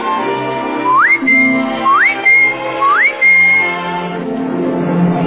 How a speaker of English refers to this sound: I whistle and hum, but I hum to whom? To whom do I hum? To whom?